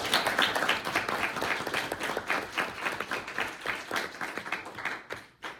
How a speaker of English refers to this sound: So I want to thank them as well. We should give a round of applause for them as well.